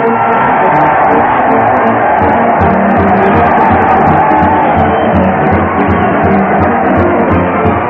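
crowd cheering

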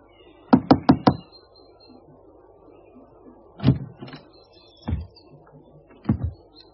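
knocking on a door

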